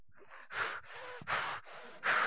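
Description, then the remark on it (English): A person mimics angry, heavy, forceful breathing through flared nostrils: about five loud, rhythmic in-and-out huffs, with no talking. “The reason it's from that root word is because when you get angry, usually your nostrils flare and you breathe heavier.”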